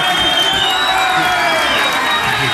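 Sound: crowd cheering and applauding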